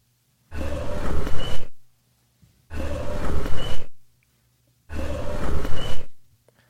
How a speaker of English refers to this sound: Every time you tried to go down there, this owl would sound off. I was able to pull one instance of the owl out.